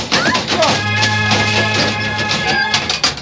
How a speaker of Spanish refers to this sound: El enorme robot queda inmovilizado y se desploma al suelo con gran estrépito.